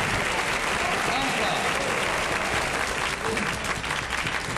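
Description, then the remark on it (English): Sustained applause from a large audience, a dense steady wash of clapping that fills the whole stretch at a loud, even level without pausing. “Bring them all a bottle of champagne. Long applause.”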